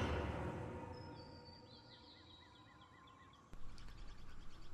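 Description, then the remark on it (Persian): Birdsong chirps quietly over a steady low rumble of background noise, with a high whistled note followed by a series of short repeated chirps, then a sudden louder burst near the end. “آواز پرنده.”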